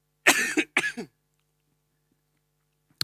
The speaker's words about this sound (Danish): Jeg tror, i 2,5 uger eller 3 uger eller sådan noget, har min stemme lidt sådan her lidt, og hostet lidt og sådan noget lige nu.